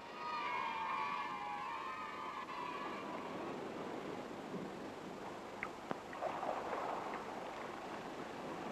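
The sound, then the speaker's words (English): A small boat pushes off across a still, calm sea, a steady wash of water and hull noise throughout, with a thin creaking whine early on and a couple of light wooden knocks near the end. “Boat, push off into the water. It is a small boat. The sea so still.”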